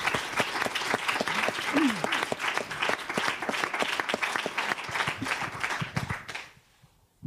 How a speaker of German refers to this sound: Bitte doch einen herzlichen Applaus für diese Menschen, die jetzt nicht hier auf der Bühne sind.